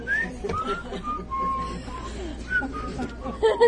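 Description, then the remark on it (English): A man whistles a short melodic tune on his own record, the notes gliding up and down in clear, steady phrases, with a low, busy background of music and voices underneath. “He whistles on his own record.”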